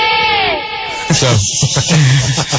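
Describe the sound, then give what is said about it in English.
A human voice, live on air, imitates an elephant's trumpet: a loud, strained, high wail that bends in pitch for about a second, followed by rough, broken vocal bursts. “So let me first do my impression of an elephant here because I think you guys will enjoy it.”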